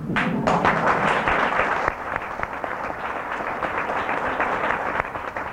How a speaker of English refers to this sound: So, the curtain call. Here are some of the great actors and singers that you'll see in tonight's show. Really, they're just your friends and neighbors, but applaud them anyway.